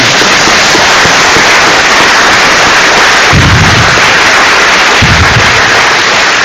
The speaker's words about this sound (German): Bevor wir zu GIMP Live gehen, können wir... Ja, vielleicht erstmal Applaus, ne?